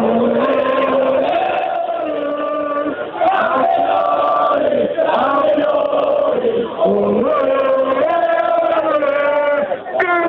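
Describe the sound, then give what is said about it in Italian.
A large crowd of AC Milan football fans at the Triennale in Milan, Italy, chants and sings loudly in unison as flares are lit, a continuous roaring wall of voices with rising and falling tones that barely pauses for about ten seconds. “Questi sono i tifosi del Milan alla triennale di Milano,”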